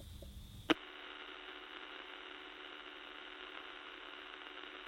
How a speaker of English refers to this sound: You would have heard, if you get a radio now and you turn it to a blank section of the dial where nothing is transmitting, you would hear that exactly the same. Just static. Just static, yes.